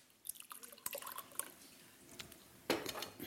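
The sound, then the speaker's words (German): Water is poured into a container for a white cabbage salad dressing made with lemon juice, with scattered drips and small clinks at first, then a louder, steady splashing pour near the end. “Und zwar, ich nehme so viel Zitronensaft, so viel Wasser.”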